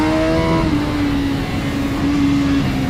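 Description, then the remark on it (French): A sports car engine drones steadily while the car is driven slowly, a continuous loud rumble with a sustained tonal hum that shifts slightly in pitch, heard from inside the car with no talking. “Bon, ça n'est pas fait pour rouler aussi lentement.”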